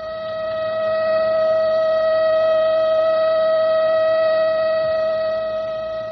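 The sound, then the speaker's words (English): A siren sounds as one steady, sustained tone with a rich buzzy edge, holding at a constant pitch and loud throughout, swelling in at the start and easing slightly at the end, with no voices. “With a siren, the editorial offices of the Transcript had emptied in a wild brouhaha of panicked exit.”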